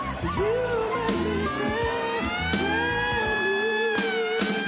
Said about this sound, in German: Das geht so weit, dass manche Künstler oder Talente, wie man hier so im Apollo sagt, die dürfen gar nicht zu Ende performen, sondern die werden nicht nur ausgebuht, sondern von einer Sirene weggedröhnt. Das klingt dann so.